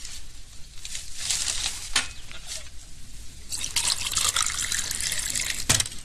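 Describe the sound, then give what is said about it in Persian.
Water is poured into a drinking glass, a splashy trickle that swells into a fuller, hissing gush partway through, with a brief sharp clink near the end. “یک لیوان دیگر آب می نوشد.”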